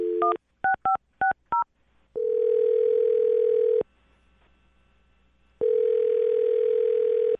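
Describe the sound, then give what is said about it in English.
A quick run of about five keypad beeps as a phone number is dialed, then two long, steady ringback tones separated by a pause. Clear, with no voices. “I'm going to dial his phone number right now, and then you can have your conversation.”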